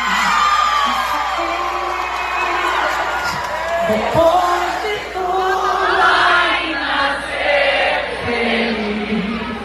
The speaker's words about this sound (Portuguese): nessa comemoração dos 90 anos da USP, a grande cantora e compositora com um sorriso amplo e perene em meio a versos famosos imediatamente entoados pela multidão.